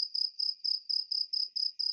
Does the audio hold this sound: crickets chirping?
yes